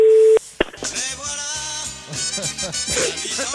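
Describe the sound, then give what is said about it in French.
A telephone ringing tone during a call placed live on Europe 1 radio to Michel Sardou: a brief steady beep, a sharp click, then a busy, melodic ringing pattern that carries on loudly with no one talking. “Ça, c'est la sonnerie, ça.”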